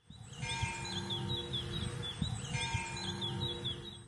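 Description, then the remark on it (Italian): Small birds chirp in quick, high-pitched bursts, overlapping in a busy chorus over a low, steady rumble, with a few soft knocks mixed in. “Esatto, è il cinguettio degli uccellini.”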